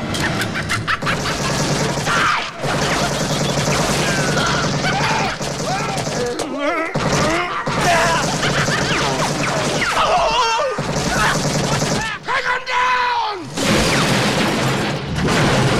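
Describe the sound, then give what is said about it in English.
Loud, sustained bursts of rapid machine gun fire, from a machine gun pulled out of a false leg, rattle through a chaotic action scene, with booming impacts and occasional shouted voices mixed into the dense din. “Durant nods to Smiley, who whips out a machine gun from the false leg.”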